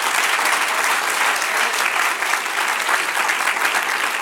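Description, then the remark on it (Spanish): Sustained applause from a large audience fills the room, a dense, steady clatter of many hands clapping at once, loud and even throughout with no voices standing out. “Del otro aplauso al que reina.”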